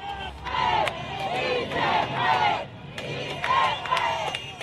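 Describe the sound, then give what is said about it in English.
A large crowd of protesters on a motorway overlooking a military air base in central Caracas shouts and chants together, urging the soldiers inside to join them against the Maduro government, in loud, rising waves of voices, with sharp bursts of yelling breaking through the steady roar of many people. “And those soldiers were wearing blue armbands as a sort of symbol of their defection, and the crowds grew and grew.”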